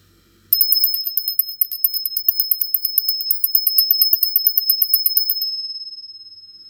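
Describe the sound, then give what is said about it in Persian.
Small goat bells jingle in a rapid, steady shimmer of bright metallic strikes for about five seconds, then the ringing fades away. Fairly loud, with no voices. “مامان گفت: سعی کن توی خیالت صدای زنگوله ها رو بشموری، اینطوری خوابت میبره.”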